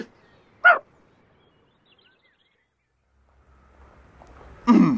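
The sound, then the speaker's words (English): Miss Rich's dog barks twice, with two short, sharp yaps about four seconds apart, loud against a mostly quiet background with a faint low rumble before the second bark. “It's not the best time to play with Miss Rich's dog.”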